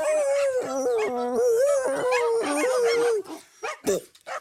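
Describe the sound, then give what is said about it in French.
Several dogs howl together in long, wavering, overlapping tones for about three seconds, then break off into a few short yips and whimpers. Fairly loud, with no talking. “Les toutous, vous m'écoutez? Comment il doit faire pour avoir la paix sociale en Argentine?”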